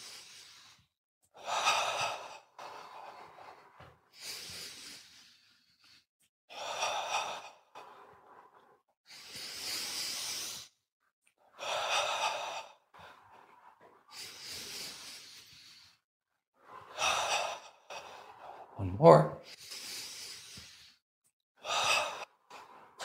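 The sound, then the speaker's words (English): Slow, deep breaths during a breathing exercise of ten deep breaths with eyes closed while swaying arms forward and back. They repeat about every three seconds, each a long, airy inhale or exhale like a sigh, with quiet pauses between and a brief spoken phrase near the end. “Notice his breath is getting longer because that's what happens.”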